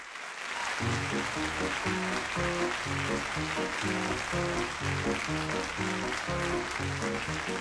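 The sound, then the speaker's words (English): A festive live audience at a concert at the Masson Winery in California breaks into sustained, dense applause that swells within the first second and holds steady, with music playing underneath the clapping throughout. “So let's join them at the Masson Winery in California in front of a very festive crowd”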